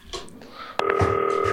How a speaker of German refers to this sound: Zack, Hörer beiseite, klingelt und dann geht das hier gleich los.